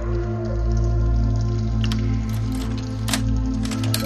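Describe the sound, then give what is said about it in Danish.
Steady watery rushing of water gushing out, with a low hum underneath, broken by scattered splashy drips and squishy spatters, continuous throughout with no voices. “Hvorfor fosser der vand ud?”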